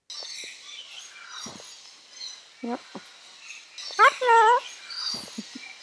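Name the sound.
cockatoo calling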